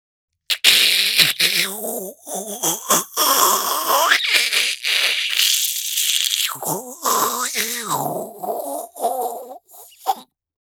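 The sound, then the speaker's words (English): A voice imitates an espresso machine: about ten seconds of continuous hissing, gurgling and sputtering noises with wavering buzzy tones, loud throughout, with brief pauses and a final short burst. “Espresso machine.”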